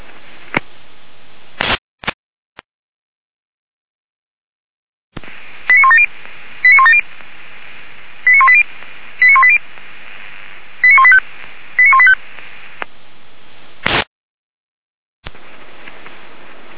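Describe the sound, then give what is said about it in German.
Fire brigade radio pager alert tones during a pager test for the Weimar professional fire brigade and all volunteer fire brigades of the city of Weimar: a burst of radio hiss and clicks, then six short, bright tone pulses in a quick uneven sequence, followed by more static and a squelch burst. “Überprüfung, Funkmeldempfänger für die Berufsfeuerwehr Weimar und alle freiwilligen Feuerwehren der Stadt Weimar.”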